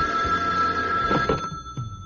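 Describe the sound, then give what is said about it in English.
A telephone rings in the morning at Nero Wolf's residence with a steady, high-pitched electronic bell tone that sustains for about two seconds, with no voices over it. “I was with Wolf in the plant rooms the next morning when the call finally came.”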